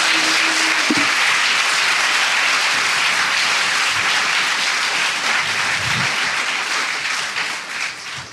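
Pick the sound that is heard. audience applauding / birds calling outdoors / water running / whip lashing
audience applauding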